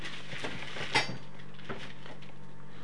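Metal gas stove grates, the iron surface that pots are set on, being handled, with a few scattered clanks and scrapes, one sharper clink standing out near the middle, moderately quiet, no talking.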